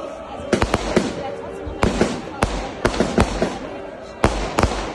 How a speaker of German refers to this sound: Bisschen Feuerwerk gab es auch.